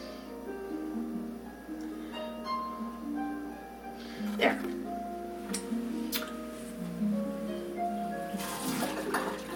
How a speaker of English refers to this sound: Just pouring my coffee here.